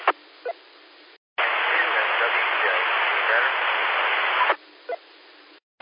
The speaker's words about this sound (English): That is 5x9, sir. 5x9, that's beautiful. That's turned back into 90-95% just bacon frying static.